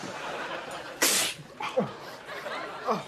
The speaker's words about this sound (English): why don't you do something about that sneezing?